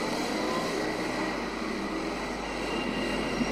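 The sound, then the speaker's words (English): Heavy road traffic, including a big lorry, roars steadily, a dense, continuous rumble and hiss that holds at the same loudness throughout, with no voices. “We better wait till the traffic stops.”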